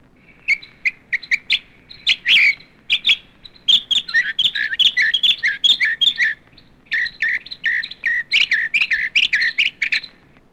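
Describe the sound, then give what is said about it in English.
A mockingbird sings a long, varied run of bright chirps, whistles and trills, phrases tumbling quickly one after another, clear with no talking. “Mockingbird.”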